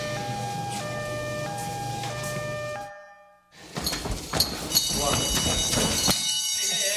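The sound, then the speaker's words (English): A loud electronic alarm at a fire station sounds with steady alternating tones, breaks off briefly, then returns as a piercing multi-tone wail over clattering movement and bustle. “The alarm.”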